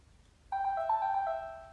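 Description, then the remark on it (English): A short electronic startup chime from an Actilino braille display powering on: a bright, steady tone sequence beginning abruptly after a quiet pause and ringing for about a second, clear. “This is the starting sound.”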